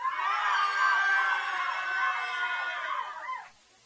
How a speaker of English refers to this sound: Okay, if your favourite band was …, give a cheer for them.